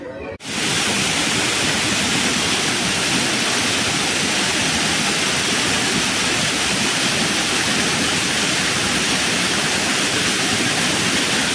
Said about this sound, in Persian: خب صدایی که بچه ها میشنوید صدای آبشار جاده جواهرده، که ما دیگه به خاطر سرمای هوا ترجیح دادیم تا اون بالاش نریم، همینجا بمونیم و از همین منظره که هست لذت ببریم.